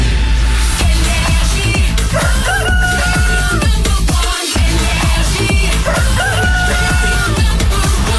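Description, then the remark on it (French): A rooster crows a couple of times to mark 8 a.m. on the Énergie radio morning show. Its rising call cuts through loud, dense music that plays throughout, with a brief dropout midway. “Bienvenue, il est 8h qu'on amène le coq.”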